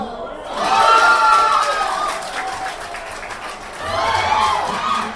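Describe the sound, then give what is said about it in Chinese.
A sports bar crowd in Taiwan erupts in loud, sustained cheering and shouting as New York Knicks point guard Jeremy Lin hits a game-winning three-pointer against the Toronto Raptors, swelling sharply after a brief quiet start, dipping slightly midway, then surging again near the end. “响呢个时候，台湾嘅体育酒吧里面就爆发出热烈嘅欢呼声。”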